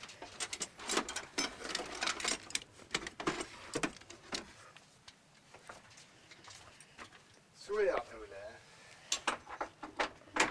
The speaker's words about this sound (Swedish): Har du riktiga klamrar här och sätter fast rullstolen med? Ja, vi måste sätta fast den. Det är en ganska hög skaderisk. Säkerheten framför allt. Så är det viktigt att vi spänner med 2 krokar fram och 2 krokar bak.